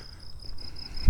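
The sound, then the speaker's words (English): Crickets chirp steadily at night in a continuous high, thin trill, moderately loud, with a soft low rumble of background noise and a brief thump near the end. “There's some crickets out tonight.”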